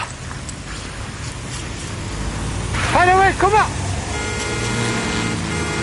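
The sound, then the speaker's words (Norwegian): Steady roar of cars passing on the busy E18 road fills the background, continuous and fairly loud, while a person calls out briefly over the traffic as Monsen leads dogs over the guardrail and out between the cars. “Monsen samler bikkene og leder han over autovernet og ut mellom bilene.”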